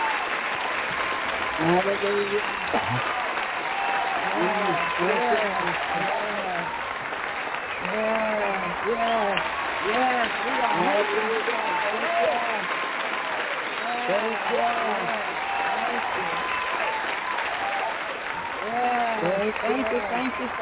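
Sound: audience applause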